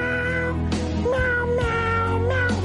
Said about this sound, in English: Is there another meow?